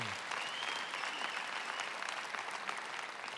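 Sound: audience applause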